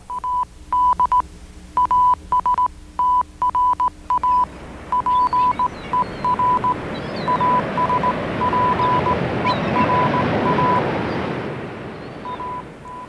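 Morse code beeps sending a message in Latin, a single steady tone pulsing in short and long bursts, clear at first, then continuing under a swelling rushing roar that nearly buries them by the end, part of a series of technological sounds leading up to a rocket launch.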